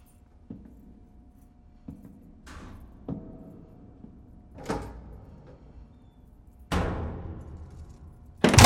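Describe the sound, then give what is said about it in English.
A bedroom door being opened as a security guard shines a flashlight into the room, with a string of sharp clicks and rattling knocks spaced irregularly over a low steady hum, ending in a louder thud. No one speaks. “As the door opens, the boy quickly lies back in bed.”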